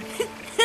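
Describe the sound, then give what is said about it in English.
A voice imitates a cuckoo call with two short hooting notes, a softer one followed by a louder, brighter one, with no other sounds around. “I know! That's the sound of cuckoo!”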